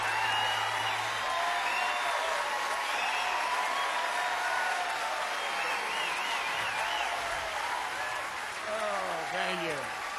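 Sustained audience applause fills the whole stretch, a dense, steady wash of clapping mixed with crowd cheers and a few rising whistles, loud throughout without any clear break.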